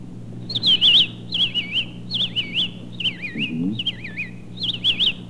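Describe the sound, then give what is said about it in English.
A whistled imitation of a robin's song: six short, bright warbling phrases with brief pauses between them, fairly loud, over a low steady hum. “A robin. Robin?”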